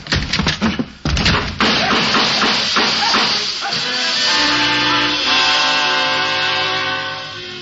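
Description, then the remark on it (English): A rapid burst of sharp, loud gunshots cracks out in quick succession as a door is torn open and someone rushes in shooting, followed by a sustained shrill whistling and hissing that carries on steadily until the end. “Now, look, I'm going to tear open the door and you rush in and start shooting.”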